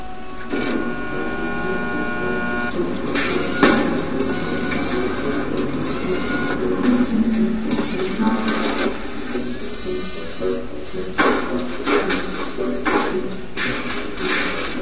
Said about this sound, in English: It's a whole bunch of robotics putting some cars together. Pretty impressive.